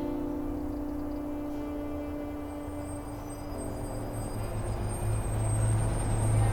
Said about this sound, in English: And 5 minutes later, the bus arrived.